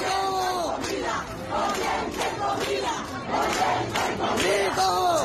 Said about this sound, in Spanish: Sin embargo, también se escucharon gritos de libertad y patria y vida, un lema de las manifestaciones antigubernamentales del pasado 11 de julio del año 2021.